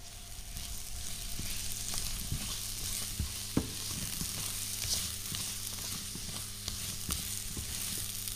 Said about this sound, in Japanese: お鍋にバターを入れて溶かしてマッシュルームを加えてよく炒めます。